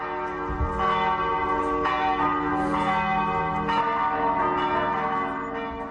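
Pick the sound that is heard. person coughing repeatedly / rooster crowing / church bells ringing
church bells ringing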